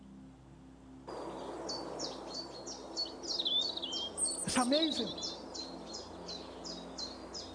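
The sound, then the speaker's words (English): A robin sings a steady run of bright, high chirping phrases, continuous, while a person briefly speaks partway through. “And the robin is singing away.”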